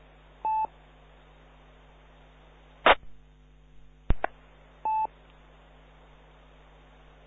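Two short telephone keypad tones sound about four seconds apart, with a couple of sharp clicks between them over a low, steady hum and faint static, no voices.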